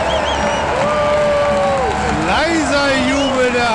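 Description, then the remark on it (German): A stadium crowd at the Millerntor cheers loudly and continuously for the FC St. Pauli women's team after their 1-7 football loss to the HSV women, a dense roar of many voices with rising shouts and a brief swell about two-thirds of the way through. “Aber Jubel, vor allem das Millerntor für seine Frauen.”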